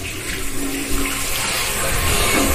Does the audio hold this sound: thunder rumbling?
no